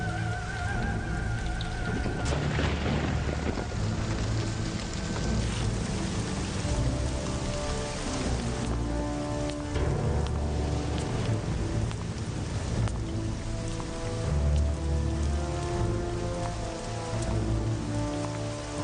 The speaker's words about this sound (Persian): باران لعنتی هم نمیخواهد بند بیاید.